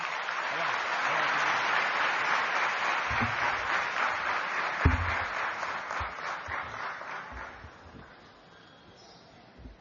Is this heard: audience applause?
yes